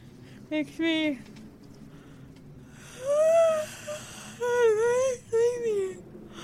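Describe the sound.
A series of voiced yawns from several people, each a drawn-out, breathy groan whose pitch slides up and then falls, coming one after another with short quiet gaps between.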